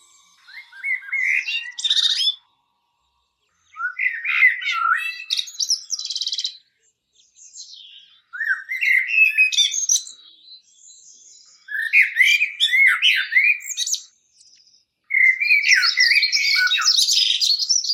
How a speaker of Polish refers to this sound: Kosy moim zdaniem są ptakami obdarzonymi jednymi z najpiękniejszych głosów natury. Trochę przypominającymi mi dźwięki fletu.